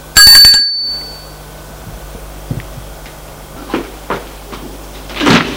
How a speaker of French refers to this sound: Sonne à la porte de l'hôtel.